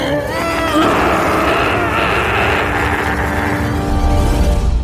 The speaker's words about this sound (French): Et à votre avis, que fait un dinosaure quand il a peur? Oui, il hurle, mais il hurle très, très fort.